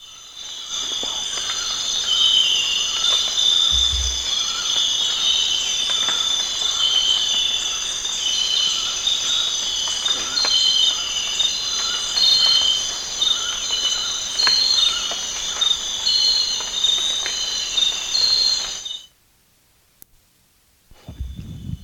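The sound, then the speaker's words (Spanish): A dense chorus of crickets chirps continuously in a steady, shrill layer, fairly loud, with faint rumbling underneath, then cuts off abruptly into near silence shortly before the end. “Acabo de grabar una cosa que está como en tercer plano, no tengo ni idea qué es, pero es difícil detectarlo, detrás de los grillos y todas las cosas que están sonando al principio.”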